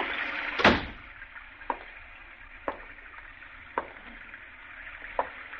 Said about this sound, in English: Now, will you close the door? It's raining in.